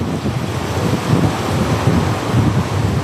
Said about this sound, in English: As the eye of Hurricane Melissa passed over Jamaica, brutal winds lashed the coast.